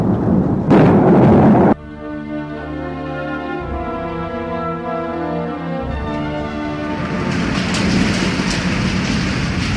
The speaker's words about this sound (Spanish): noche de lluvia en la casa fantasmal.